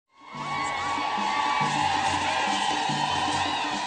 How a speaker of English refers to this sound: You're hearing there an ecstatic crowd in Tanzania welcoming President Barack Obama and First Lady Michelle Obama to their country, the final leg of the president's Africa trip